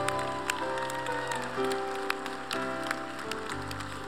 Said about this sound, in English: Come on, let's give God a big clap and thank him.